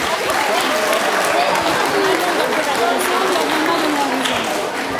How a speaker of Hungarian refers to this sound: Gratulálunk, tapsoljuk meg az okosokat.